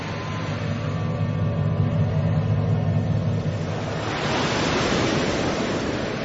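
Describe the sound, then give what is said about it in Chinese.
Stormy ocean waves under dark clouds roar in a steady, dense wash of surf, rumbling low at first before a bigger wave crashes in brighter and hissing near the end, huge waves rising from the deep sea and striking a small boat. No voices. “忽然大海变了脸色，天上乌云密布，海面上波浪汹涌，一排排滔天巨浪从海的深处升起，恶狠狠地扑向小船，从它背后袭来，劈头盖顶的砸向了小船。”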